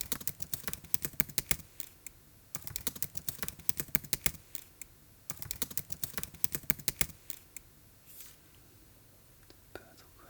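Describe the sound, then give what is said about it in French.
Rapid, crisp typing on a computer keyboard while a text is being edited, coming in bursts of clustered keystrokes separated by brief pauses, looped, with the clatter thinning out toward the end. “Ça, c'est le bruit du clavier de mon ordi.”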